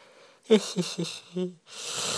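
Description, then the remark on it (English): A voiced yawn: a few short groaning pulses that stretch into a longer moan, then a breathy rush of air trailing off at the end. “Oh, I'm so sorry about the yawning, though.”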